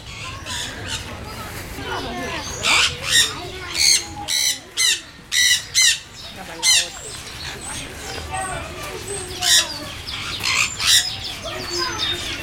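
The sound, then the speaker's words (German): A sun conure gives loud, harsh squawks in bursts, piercing shrieks repeating irregularly over a steady background murmur, with a cluster of rapid calls in the middle, in light rain. “Da hört man jetzt den Sonnensittich.”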